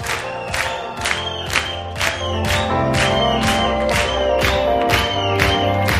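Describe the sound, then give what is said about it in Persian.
A large crowd cheers, screams and shouts hooray in a loud, sustained roar, with steady rhythmic bursts like clapping or stomping about twice a second running underneath. “جیغه هورا.”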